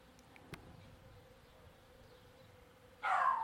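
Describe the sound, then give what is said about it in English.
Thousands of bees, their back legs covered in pollen, hum steadily around flowers, a soft continuous drone with no talking, until one buzzes loudly near the end. “I could see even from 12, 15 feet up that their back legs are absolutely covered in pollen. You know, the big yellow knees, as it says, the bee's knees.”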